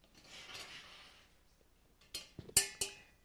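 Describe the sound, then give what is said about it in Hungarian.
Worn, plain aluminium pots for everyday household use are handled: a soft scraping shuffle, then four sharp metallic clanks in quick succession, the last ones ringing briefly. No one speaks. “Hanem alumínium edények is.”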